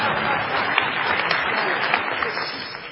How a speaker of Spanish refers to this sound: Sí, puede aplaudir, señora, ya que tiene ganas. Aplauda.